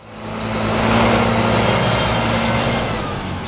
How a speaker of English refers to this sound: It's delivery day at White River Grow Pro in White River Junction, and an 18-wheeler is pulling into a parking lot just off of South Main Street.